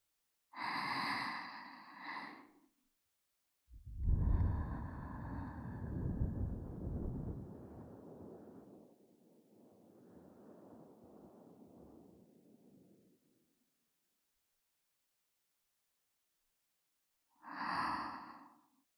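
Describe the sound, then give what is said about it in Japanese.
A long, breathy exhale into the microphone, with a low rumble, fading out slowly over several seconds. Brief voiced sighs come before it and again after a pause. “私があなたに届けているもの、あなたのためだけに、私はこうして吐息を送っているのです。”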